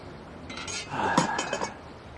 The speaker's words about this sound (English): She smiles and raises her glass. They clink glasses and sip.